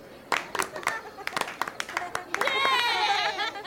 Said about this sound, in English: Good! Clap for yourselves!